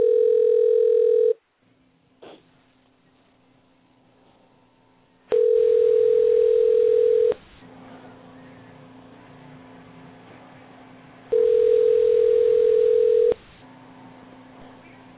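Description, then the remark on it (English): Telephone tones while placing a call: a steady electronic tone sounds in roughly two-second bursts, three times, with a low hum and faint line noise in between, with no one talking. “Maybe we won't dial Don Fargo's number.”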